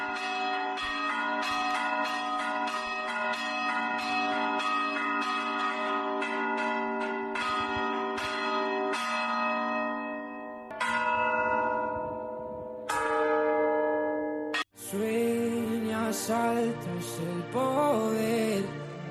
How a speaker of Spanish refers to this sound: Y esa iluminación puso el foco este pasado viernes, a partir de las 9, en las campanas de la Redonda. Nunca antes se había llevado a cabo un concierto de campanas en la concatedral.